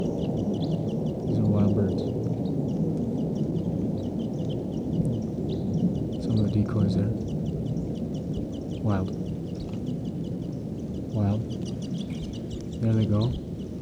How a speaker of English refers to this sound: There could be as many as 10 birds here. Stop. Birds are calling. They may take off.